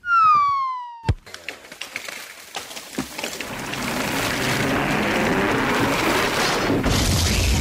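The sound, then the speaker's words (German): A falling whistle gives way to a sharp thud of a football being kicked, then a loud, sustained crash of breaking and clattering debris that keeps rumbling to the end. No voices. “Und zum Schluss noch ein Schuss.”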